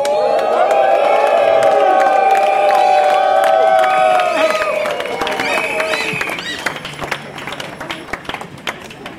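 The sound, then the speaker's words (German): A large crowd shouts loudly in protest against the fuel price brake (Spritpreisbremse) when asked to get loud, a sustained roar of many voices that lasts about five seconds before thinning into scattered yells, whistles and some clapping. “Werdet mal laut, wenn ihr dagegen seid.”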